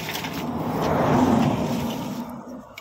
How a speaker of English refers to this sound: Oh, there's a car coming as well.